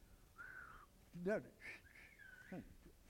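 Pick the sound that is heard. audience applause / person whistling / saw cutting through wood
person whistling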